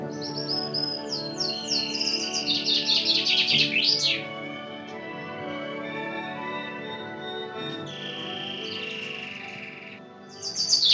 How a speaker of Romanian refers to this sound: ascultând trilurile felurite ale păsărilor și susurul cristalin al izvoarelor.